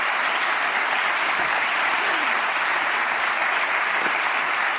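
An audience applauds steadily, a dense, even wash of many hands clapping that holds at the same loud level for about five seconds, with no voices over it.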